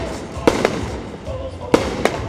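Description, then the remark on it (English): Four sharp fireworks bangs burst in two quick pairs over a steady outdoor crowd murmur and faint background noise, at a late-night election rally in the capital of Guatemala. Supporters listen to music and watch fireworks on the island in the middle of a busy traffic circle. “At a recent late-night rally in the capital, her supporters, listening to music and watching fireworks, barely fill half of the island in the middle of a busy traffic circle.”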